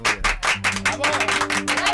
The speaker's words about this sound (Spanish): Un aplauso